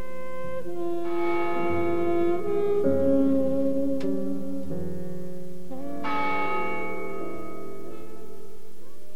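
church bells tolling

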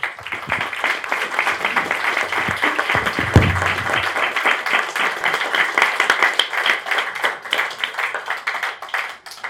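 applause

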